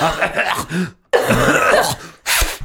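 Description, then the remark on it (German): Several loud coughs come in bursts: a harsh hacking run, a short pause, another long cough, then one final brief cough after a gap. There is voiced, throaty tone within the coughs. “Und die dürft ja auch weiterreden, während ich huste.”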